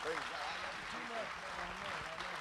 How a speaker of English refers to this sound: And I want you to clap your hands unto the Lord as he comes this morning.